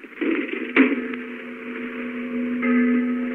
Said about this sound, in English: It's the church bell, all right.